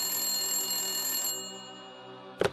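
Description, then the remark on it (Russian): A telephone bell rings steadily at midnight in a house with bright, sustained metallic tones, then fades and cuts off, followed by a brief clatter as if the receiver is picked up. “Я в доме совсем один, а телефон все звонит.”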